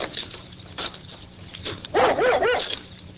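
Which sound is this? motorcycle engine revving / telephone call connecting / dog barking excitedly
dog barking excitedly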